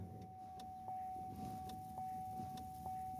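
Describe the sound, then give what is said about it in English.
A car drives along a rough, dusty road near a labor camp in Huron, California, on a windy day, heard from inside: a steady low engine and road rumble with a faint constant hum, broken by repeated rattles and clunks every half second or so. “We're driving near a labor camp in the city.”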